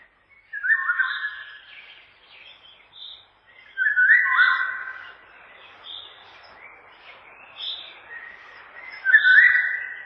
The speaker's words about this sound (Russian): Песня коротка и грустна по складу. В июньском предзакатном лесу после короткого летнего дождя во влажном воздухе хорошо слышна песня Иволги.